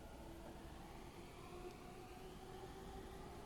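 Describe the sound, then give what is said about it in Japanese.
A train arrives at platform 16 of a Japanese station, a continuous heavy roar with a faint high mechanical whine riding on top, sustained throughout with no voices; the train has five cars with four doors each. “まもなく16番線に貿易止まりの列車が参ります。”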